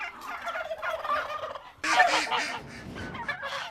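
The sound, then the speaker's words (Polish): Small Indian Runner ducks quack in a busy, overlapping chatter, several birds calling, with a louder burst of quacks partway through before the calls continue steadily. “Potrafią znieść koło 100 jajek rocznie, więc to jest bardzo mała kaczka, a tak wydajna.”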